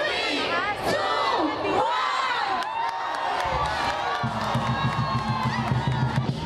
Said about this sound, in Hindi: ये fireworks China में हो रहे हैं, जहां दारुल हुकूमत बीजिंग में कमरी साल के पहले दिन को बंदर के नाम से मंसूब किया गया है, जो कि चीनी ज़ोडियक साइंस में शामिल 12 जानवरों में से एक है।